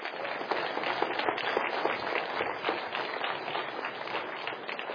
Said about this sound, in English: Give them a round of applause as they come.